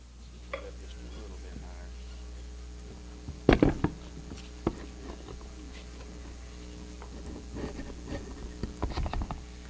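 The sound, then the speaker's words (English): Microphone stands being adjusted: a handful of metallic clunks and ticks, with one louder rattling cluster midway and softer clicks after, over a steady low hum. “All right, that looks about good for that. Got to let these microphones grow a little bit.”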